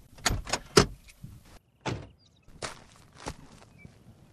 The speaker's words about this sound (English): Pulling off the Prince's Highway and turning off the car's engine, you enter a little natural haven.